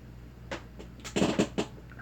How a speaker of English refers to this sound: Oh, sorry about my chair making noises.